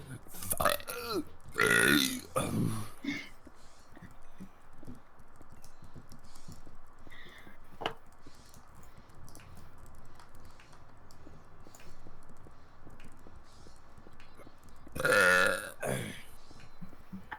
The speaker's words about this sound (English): How can you burp so much? That's... I don't know. Unbelievable.